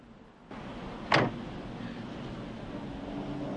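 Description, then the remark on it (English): A car's driver's door opens on a dark, wet street as a man gets out: one sharp metallic click and clunk, set against a steady low rumble of background noise that swells in just before it. No one speaks. “The driver's door opens and a man gets out”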